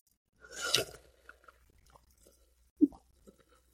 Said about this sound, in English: By the way, when I take those sips of water, that's not how I drink water. I do that for audio effect, the slurping. I do that for you guys. That's not how I drink.